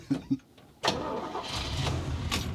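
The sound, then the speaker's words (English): The engine of an old, 40-year-old bright yellow school bus in the old town of Yellowknife cranks with a couple of short starter bursts, then catches and settles into a steady, rumbling idle, fairly loud. “Welcome to my school bus, my little old school bus down here in the old town of Yellowknife.”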